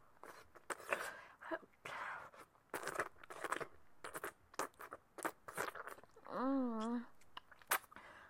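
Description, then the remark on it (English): Wet mouth noises simulating oral sex: repeated slurps, smacks and sloppy licking of a penis in uneven bursts, with a short wavering voiced moan near the end. “A good old sloppy ass fuck fest. Lapping my tongue all over your hard rod.”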